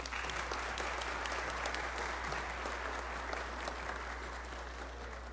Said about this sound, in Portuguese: O cerimonial gostaria de agradecer a presença do vereador Ivan Silva e pede uma salva de palmas.